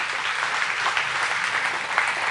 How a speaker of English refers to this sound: We're going to do that. We're going to start working. You can clap that up. I'm all for that.